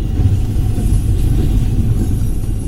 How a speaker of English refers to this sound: A Florida East Coast Railway train pulls up next to the South Florida Logistics Center that's just west of Miami International Airport.